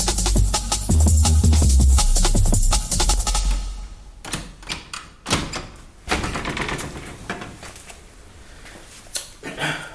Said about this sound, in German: Ich würde sagen, ich schließe jetzt erstmal die Tür zu, bis die sich beruhigt haben und dann sehen wir weiter.